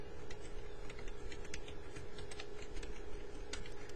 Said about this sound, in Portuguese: Apertei um tab, agora vou digitar a minha senha.